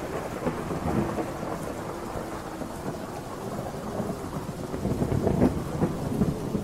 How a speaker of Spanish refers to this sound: Era una noche fría y húmeda de invierno, una de esas donde la lluvia caía pesadamente sobre la ciudad. El eco de las gotas golpeando el techo metálico del edificio de la morgue era un sonido constante, casi hipnótico.